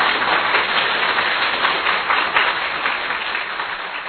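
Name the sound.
loud applause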